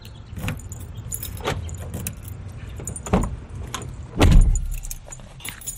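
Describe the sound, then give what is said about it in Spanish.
Keys jangle and several sharp clunks of a car door, then an engine turns over and catches with a loud burst that settles into a low, steady rumble. No one speaks. “Nos metemos en el coche, arrancamos y conducimos.”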